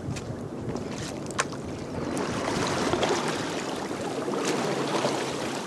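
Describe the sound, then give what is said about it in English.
Paddles splash and churn through river water in repeated strokes as a group of tourists on a Grand Canyon river trip paddle their raft forward on a guide's call, with a steady rush of moving water and light wind around the boat. “So can we get a forward paddle?”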